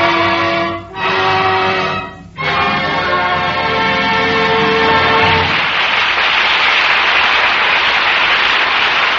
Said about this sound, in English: Henley's Casablanca Wine joins our audience here in Hollywood in applauding Joan Fontaine and Joseph Cotton for their performances in Rebecca.